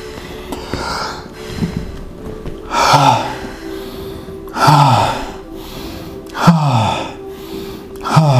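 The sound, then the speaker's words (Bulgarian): Deep, forceful gasping breaths during a breathing exercise repeat in a steady rhythm, roughly every one and a half seconds, each a loud airy inhale with no talking. “Това дишане е лекуващо дишане, разтварящо на личности дишане, махащо тая маска, толкова залепнала маска”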